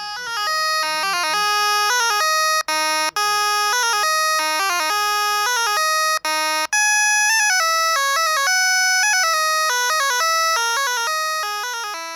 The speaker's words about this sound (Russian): Что мы сейчас и можем делать с теми сигналами, которые подают наши электронные будильники, мобильные телефоны и даже противоугонная сигнализация в автомобилях.